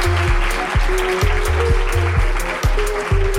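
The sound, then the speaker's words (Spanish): An audience applauds in a dense, steady wash of clapping while music with a regular thumping bass beat and sustained tones plays underneath, with no talking. “Pues nada, un aplauso, por favor,”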